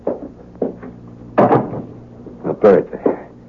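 A door being shut, heard as a short series of wooden bumps and clunks, with two louder, sharper knocks standing out among softer handling sounds over a low steady hum.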